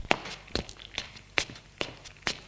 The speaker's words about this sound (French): Il se lève. Dans la maison et entend des pas dans le salon.